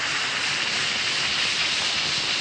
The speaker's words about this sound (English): Just drop one or two tablets in a glass of water like this. Listen to it fizz.